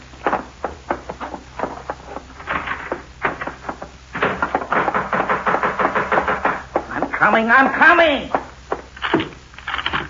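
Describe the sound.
Loud, insistent pounding on a door in rapid repeated bursts, the blows coming in quick volleys with short pauses between. Near the end a voice calls out over the knocking.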